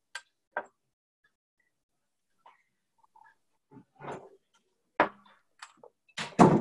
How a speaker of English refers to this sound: I'm just going to go shut my door just a sec.